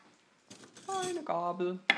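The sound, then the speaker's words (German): Cutlery and dishes clatter as a large plate is taken out one-handed from beneath deep plates and cutlery is fetched, with a bright clink near the end, while a voice talks over the handling. “So, Besteck.”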